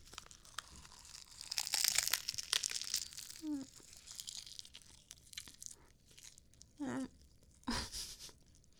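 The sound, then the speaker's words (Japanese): Crisp, crackly crunching of dry nori seaweed on an onigiri rice ball being bitten and eaten, loudest in a dense burst early on, then scattered softer crunches with a few short murmured vocal sounds. “あ、やっぱりほら、海苔は、うん、ね、海苔がボロボロこぼれちゃう。いただきます。”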